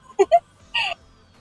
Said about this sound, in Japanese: 結局最後泣いてる。